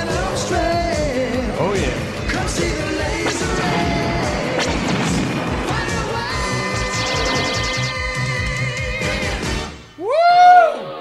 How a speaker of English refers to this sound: By the way, at the end there, we hear the whoosh, whoosh, whoosh, whoosh, whoosh. That is a helicopter shooting at a fucking motorcycle.